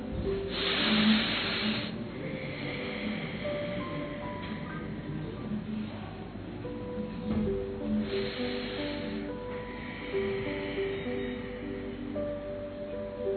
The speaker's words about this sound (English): As you inhale, take all the positivity inside, and taking the power from Baba, with the deep breathing we are clearing our chest, our lungs, our stomach, our navel, our pelvic area.